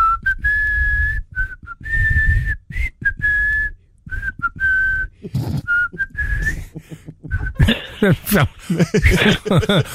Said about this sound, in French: Écoute, tu siffles très bien, petit rossignol.